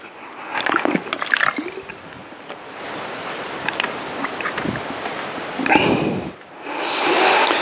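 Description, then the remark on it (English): Wet slurping and sipping sounds from someone drinking, a few irregular bursts with soft liquid sloshing and swallowing between them, fairly loud. “Let's have a slurp.”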